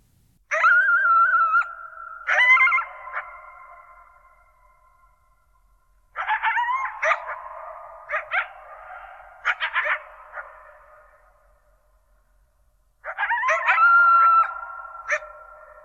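A pair of coyotes howl and yip at night right outside a bedroom window at the edge of Olympic National Park, in three separate bursts, their high wavering cries overlapping and then trailing off into quiet between calls, with no talking.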